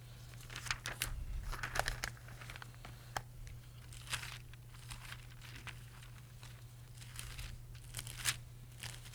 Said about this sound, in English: Let's just take a moment. We'll just do a little flip through here so that we can clarify this. But go all the way back to Isaiah chapter 1.